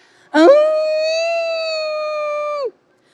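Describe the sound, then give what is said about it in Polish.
A wolf lets out one long, steady howl, loud, rising sharply at the start, holding a single pitch for about two seconds, then breaking off abruptly. “Materac skrzypiał cicho ze starości, a wilk wył w najlepsze.”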